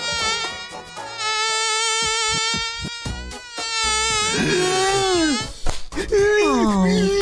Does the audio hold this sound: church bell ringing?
no